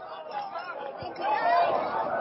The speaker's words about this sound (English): Crowd enjoying it.